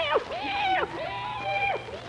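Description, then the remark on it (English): A cat meows outdoors on a dark, moonless night, two or three times in quick succession, each cry a drawn-out, rising and falling wail, clear against a quiet background. “Hello, kitty. Hey, kitty, kitty, kitty, kitty.”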